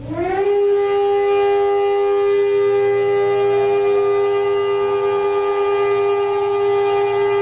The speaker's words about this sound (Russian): Двухминутная траурная сирена, прозвучавшая по всей стране в 11 утра по местному времени, стала сигналом к началу целого ряда мероприятий, посвященных дню поминовения павших в войнах Израиля и в террористических актах.